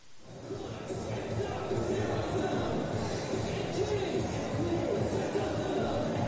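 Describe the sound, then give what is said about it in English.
A crowd of 8,080 at an Aviators baseball game on a Saturday night, a packed house, murmurs and chatters steadily, a dense wash of overlapping voices filling the stadium, with occasional faint shouts rising above the constant hubbub. “A crowd of 8,080 making some noise as Jonathan Hernandez fires his final warm-up tosses, with the Aviators trailing by the slimmest of margins, down 5-4.”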